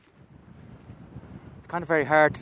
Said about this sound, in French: C'est difficile de rester debout dans le vent.